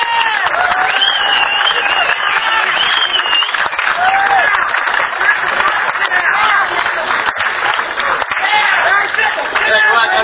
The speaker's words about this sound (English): Let's all have a big round of applause for Neville Kramer.